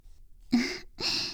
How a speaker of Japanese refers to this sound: すっごい大きなあくび。